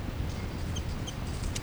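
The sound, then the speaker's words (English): A bird's "3-3" chitter call: two brief, high-pitched chirps about a third of a second apart, faint over a steady low rumble, followed by a short airy burst. No one speaks. “That's 3-3 chitter.”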